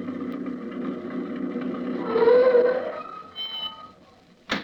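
An old truck engine rumbles and chugs, its pitch rising briefly as it revs, then it winds down and settles before a single sharp clunk at the end.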